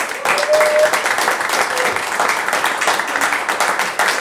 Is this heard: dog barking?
no